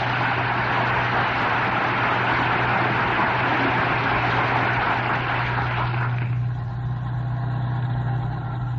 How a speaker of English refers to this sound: here, speeding homeward as fast as modern streamlined transportation will carry them, yes, here on the bus, approaching Wistful Vista, we find Fibber McGee and Molly.